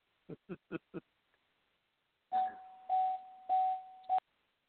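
Four quick, soft taps, then a steady mid-pitched background tone from a call feed that runs under four loud, buzzy bursts before cutting off.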